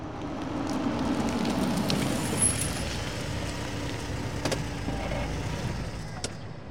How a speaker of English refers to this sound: This road could use some work. I think you may have missed a couple of potholes.